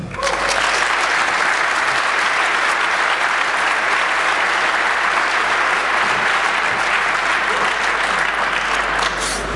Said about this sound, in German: Von daher, lass uns mit einem freudigen Applaus begrüßen,